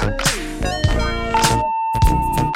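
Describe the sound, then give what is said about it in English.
Electronic chirping tones from a push-to-talk phone as someone chirps friends, bright warbling bleeps that give way to a long, steady beep tone sustained through the end, loud. “I got my niggas chirp, I'm finna hit them right now, it's Friday and shit.”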